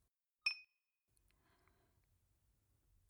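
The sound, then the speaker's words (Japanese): A single bright clink of glasses touching in a toast, ringing briefly with a high tone, followed by quiet low background rumble. “改めて乾杯と自己紹介だ。”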